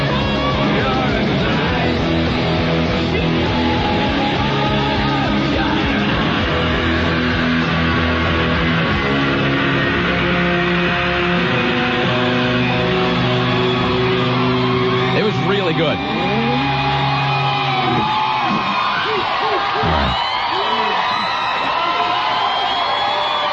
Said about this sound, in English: And then for this one, he slides under the front of the stage on his knees and does this long, hunched over on his knees, kind of like a kneeling fetal position kind of a scream. It's really great.